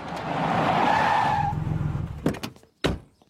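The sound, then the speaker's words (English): Peter Griffin's pickup truck in a Family Guy scene skids loudly to a stop, its tires squealing in a long screech over engine rumble, followed by two sharp thuds like doors slamming. “Peter, what the hell are you doing with a pickup truck?”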